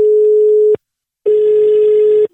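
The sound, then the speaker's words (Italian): A telephone line ringing tone as a call is placed: two steady electronic tones, the second longer, separated by a brief silence. They sound loud, with no voices. “da lì parte la telefonata a bischero di Bischero di Masti e sono io sulla vostra Radio Toscana, solo Toscana, solo it, vai telefono”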